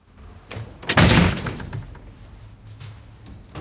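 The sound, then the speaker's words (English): A door is shut by a man walking in, with a single loud slam and a brief rattling decay, set against quiet room tone with faint movement before and after. No one speaks. “Jim walks in and shuts the door.”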